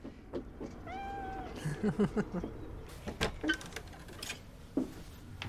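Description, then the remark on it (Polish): A domestic cat gives one short, clear meow near the start, followed by soft scattered tapping and rustling sounds, with no one speaking. “Ganek jest też kocim rajem, ponieważ jest to ulubione miejsce rekreacji kotów domowych, które siedzą w zależności od tego, gdzie słońce świeci.”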